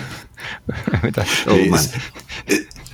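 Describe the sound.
Heavy breathing out close to the microphone, loud breathy exhales mixed with voiced, speech-like sounds over a few seconds.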